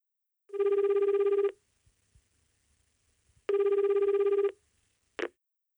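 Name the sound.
telephone ringing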